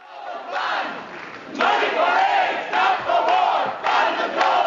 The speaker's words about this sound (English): Thompson had intended to talk about the Bush administration's efforts to combat the transmission of AIDS from mothers to children, but as … reports, he was shouted off the stage.